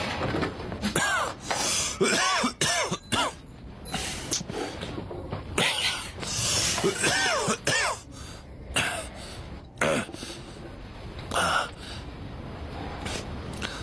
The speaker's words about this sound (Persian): راستشو بگو، چند وقت داری سرفه میکنی؟